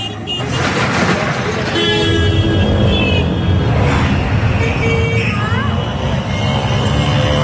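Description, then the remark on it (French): Busy city street traffic in the quarters of Bhavnagar where goods salvaged from ships are sold, at the calmest hour of the day: a steady, loud rumble of engines with several sustained horn blasts sounding over it, and a murmur of voices mixed into the din. “Ça, c'est leur calme, hein, les sons qu'on entend, là, les klaxons, les tchouk-tchouk, les moteurs, tout le bazar.”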